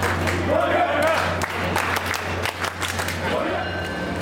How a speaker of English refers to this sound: As I queue into South Station to catch my ride, a sea of fans funnel between metal gates on the way to the platform. When the train doors open, the crowd cheers and chants as they hop on.